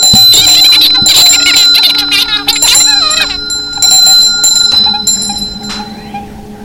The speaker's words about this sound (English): Well, that's a bell, isn't it? It's not a phone. But it's ringing.